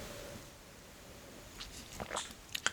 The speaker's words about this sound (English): So let's pause and take a moment to review before we go on, and I'm going to have another sip of water here.